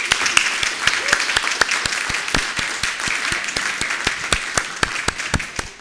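A crowd applauds steadily for several seconds, a dense wash of hand claps with sharp individual claps standing out throughout, fairly loud and sustained without pause.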